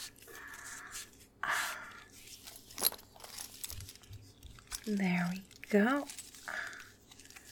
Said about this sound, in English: I'll strap you up all nice and firm now. There's so many fucking buckles.